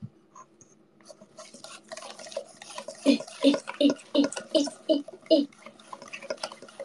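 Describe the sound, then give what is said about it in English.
Ingredients, with more milk added, are whisked in a bowl: about seven quick, evenly spaced strokes with a wet, sloshing clatter, each stroke loud and distinct, following a few seconds of quieter movement. “Oh, you can want to hear the whisk sounds as well.”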